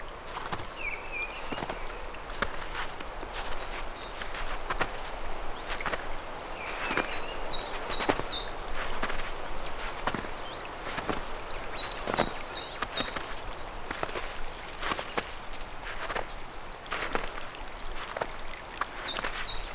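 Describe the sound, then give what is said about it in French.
Birds chirp and trill in short bursts in early spring over a steady, bright trickle of meltwater from lingering snow patches, with occasional soft clicks and splashes and no voices present. “Plaques de neige persistantes, sous quelques clapotis d'eau de fonte, orchestrées par le chant des oiseaux.”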